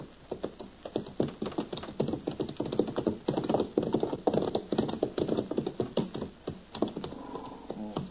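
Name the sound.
horses' hooves clip-clopping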